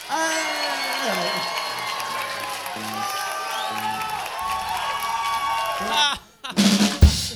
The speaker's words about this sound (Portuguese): Então eu vou pedir pra vocês uma salva de palmas